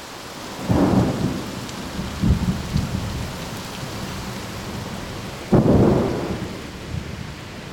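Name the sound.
thunderstorm with heavy rain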